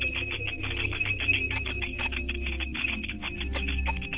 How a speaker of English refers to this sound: You may summon your ancestors too at this very moment. Remember, we ring a bell to summon them.